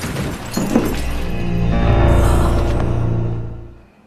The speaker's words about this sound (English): smashes a vase over his head.